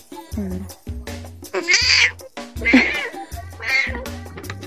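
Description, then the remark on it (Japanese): A cat in heat yowls repeatedly in long, wavering, nasal cries, loud and insistent, with short pauses between calls and a faint voice underneath at moments. “めっちゃ泣いてる。”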